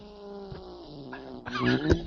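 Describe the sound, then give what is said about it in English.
A pet cat's drawn-out, tonal meow that holds steady, then swells into a louder, rougher growling cry near the end, heard alone with no talking. “Is that a cat?”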